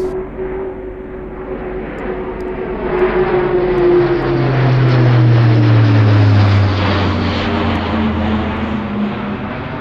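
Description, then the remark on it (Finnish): Heavy turboprop engines of an A400M cargo aircraft drone loudly as the plane passes overhead, the roar swelling mid-pass and the propeller hum sliding lower in pitch as it moves away. No voices. “A400M-rahtikoneen etu on kuitenkin sen tilavuus ja joustavuus.”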